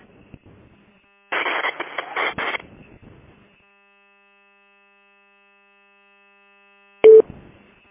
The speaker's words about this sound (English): Was somebody on a heart monitor, and if so, their heart sure is beeping off the slope.